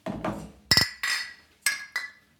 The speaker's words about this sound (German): Also, wir stoßen jetzt erstmal an. Prost.